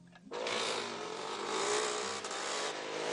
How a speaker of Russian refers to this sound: По дороге между изгородями проезжают два мотоциклиста.